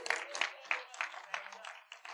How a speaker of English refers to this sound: On that note, let's all stand. Did y'all get anything out of this today? One person. I heard one person applaud.